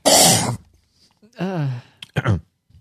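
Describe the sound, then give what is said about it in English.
A voice imitates a loud, ugly cough that a man coughed into his hands just before checking in to vote: a harsh noisy burst, then a strained, pitched, hacking sound and two quick rough coughs, with short pauses between them. “like makes this really ugly sounding cough, and being a improperly taught good boy, he coughed into his hands.”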